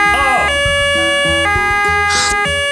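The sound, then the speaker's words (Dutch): A loud ambulance siren wails in a two-tone pattern, its pitch stepping up and down about every half second, continuous throughout. “Is het nou de politie, de brandweer of de ambulance? Ambulance.”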